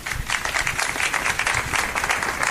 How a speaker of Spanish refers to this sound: Con estos aplausos se ha roto ese minuto de silencio en el Ayuntamiento de Antequera.